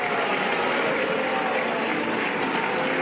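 Steady, dense applause mixed with scattered booing in the European Parliament after Jean-Claude Juncker addressed members about his home country's controversial tax-saving schemes, a loud continuous wash of clapping and crowd noise lasting the whole three seconds with no clear speech.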